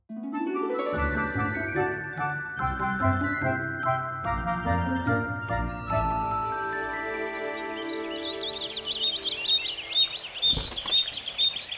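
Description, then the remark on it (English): Bright music plays, then a loud, dense chorus of birds chirping and singing, played as a recording of happy sounds, swells in, their rapid high tweets overlapping continuously through the final seconds. “What's with all the birds?”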